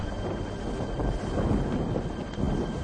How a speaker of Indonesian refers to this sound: Yesus tegak, nyegah angin dan gelombang badai itu, serta menenangkannya.